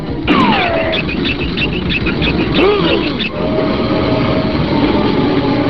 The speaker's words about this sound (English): Wait! Did you feel that? Oh, there's a train coming!